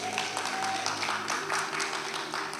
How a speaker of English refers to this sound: That's fantastic. So give yourselves a round of applause again.